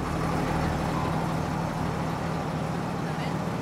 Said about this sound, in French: Tous les autres, près de 60 personnes, dorment dans des hamacs, sur le pont. Malgré le vacarme assourdissant du moteur diesel.